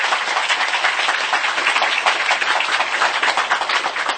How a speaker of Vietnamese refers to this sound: Do đó chúng ta cho một tràng pháo tay để tán thán.